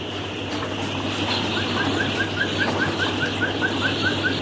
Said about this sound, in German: Dann geht die Türe zu den etwa 4000 Küken auf.